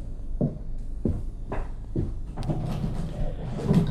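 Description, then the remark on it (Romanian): A window is worked open: four dull wooden knocks at a steady pace, then a longer scraping rattle as the frame slides, fairly quiet with no talking. “Dă drumul la fereastră.”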